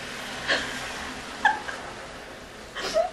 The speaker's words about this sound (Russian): раньше не любила собак в плане того, что нет, собак я очень люблю, но когда они гавкают, тут просто аф-аф-аф-аф-аф-аф, вот это вот вообще не затыкаясь. Сейчас успокоилась, думаю, что хорошие звуки природы гавкают и гавкают.